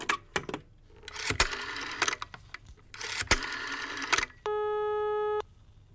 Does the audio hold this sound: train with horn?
no